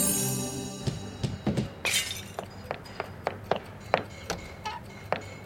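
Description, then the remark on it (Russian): A vase shatters with a sharp crash, accidentally knocked by someone practising with a ball, followed by a scatter of smaller clinks and taps as pieces hit the floor, about a dozen bright hits over several seconds. “Пап, как думаешь, мама сильно расстроится, если узнает, что ее ваза разбита?”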